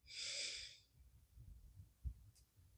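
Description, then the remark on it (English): A single sharp, airy deep breath drawn in through the nose during a guided relaxation breathing exercise, loud for under a second, followed by quiet low background rumble and a faint soft knock. “And one more time, breathing in”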